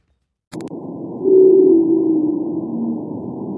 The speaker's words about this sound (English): Whale songs may put some people to sleep, but these particular sounds have made researchers at the University of New South Wales quite excited. That's because the whales making the music are a new population of the pygmy subspecies of blue whale